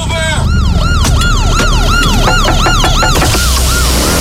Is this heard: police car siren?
yes